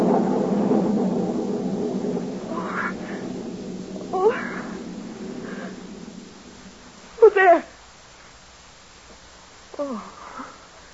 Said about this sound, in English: Thunder.